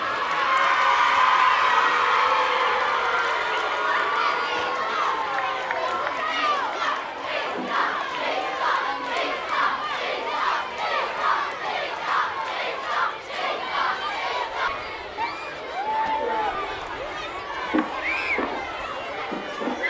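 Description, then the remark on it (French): A large crowd of primary school pupils cheers and shouts in a stadium during a prize-giving ceremony, a loud, continuous mass of high-pitched voices with excited yells rising and falling throughout. “Ambiance dans le stade avec la remise des prix aux élèves des écoles primaires.”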